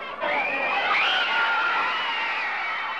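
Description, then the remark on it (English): A crowd of young girls standing outside the Plaza Hotel in New York City screams continuously in high, shrill overlapping voices, a loud sustained wall of shrieking with rising and falling pitch that never lets up. “This is a group of young ladies standing outside the Plaza Hotel in New York City.”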